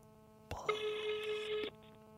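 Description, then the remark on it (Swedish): A single steady electronic ring tone from an outgoing phone call to a man sounds for about a second after a soft click, fairly clear, with no one talking. “Här kommer ju bli lack att jag ringer honom och frågar detta.”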